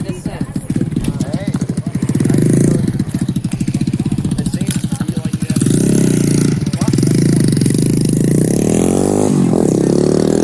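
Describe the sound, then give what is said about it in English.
Loud motorcycle engines rev and buzz continuously as young riders circle around a group of people, their rapid firing pulses surging in waves, with throttle bursts rising in pitch near the end. “At least the young hooligans stopped buzzing their motorcycles around us when the cops showed up.”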